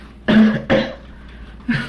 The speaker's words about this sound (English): I just coughed some up for you.